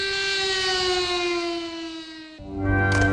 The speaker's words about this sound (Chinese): 国歌唱毕，全场向南京大屠杀死难者默哀，南京市拉响防空警报，汽车停驶鸣笛，行人就地默哀。